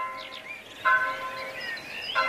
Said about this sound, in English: Bells ringing out from monasteries and parish churches, not just ringing out the time of day, but calling people to prayer. The sound of the bells was something that drove away evil spirits.